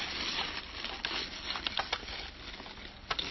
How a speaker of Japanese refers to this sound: はい、結構蒸して、まあ雨降ってます。